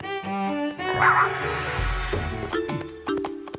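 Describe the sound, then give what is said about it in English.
A dog barks and lets out high, excited yips in a quick, uneven string, loud, with some sustained tonal sounds underneath. “That is a very gifted dog.”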